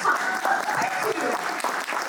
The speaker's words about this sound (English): I need a clap sound for the cameras too.